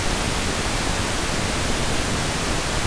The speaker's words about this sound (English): Here is pink noise filtered from white noise to create equal power in each octave.